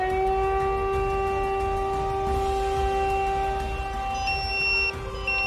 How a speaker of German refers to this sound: 17.17 Uhr löst die Leitstelle der Feuerwehr Alarm aus.